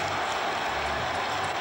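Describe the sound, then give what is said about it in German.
A dense, steady roar of a large football crowd cheering and clapping, loud and continuous throughout the short stretch, after a goal putting Sturm ahead 2:1. “So jubeln die Stürmer.”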